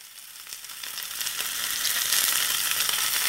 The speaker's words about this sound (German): Ständig geschieht es in unseren Küchen. Ein Schnitzel, ein Fischfilet, eine Frikadelle wandert in die Pfanne und wird gebraten, mehr oder weniger heiß, mit einem mehr oder weniger teuren Öl.